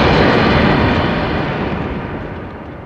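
A loud explosion of a computer bursts at once and trails off into a long, rumbling roar that slowly fades over a few seconds. No voices are heard.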